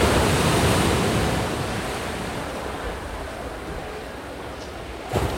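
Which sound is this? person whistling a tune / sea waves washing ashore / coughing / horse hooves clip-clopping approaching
sea waves washing ashore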